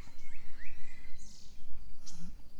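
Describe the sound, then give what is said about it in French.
Scattered bird chirps and short rising whistles of birds singing over a low, steady outdoor rumble, with a few brief calls spread across a couple of seconds. “Et j'aimerais entendre les oiseaux chanter.”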